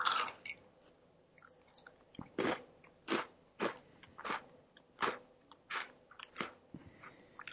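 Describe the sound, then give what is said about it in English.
Chewing with crisp, crunchy bites repeating roughly every half second, loud and wet, with no voices over it. “No, you're chewing, not your D.”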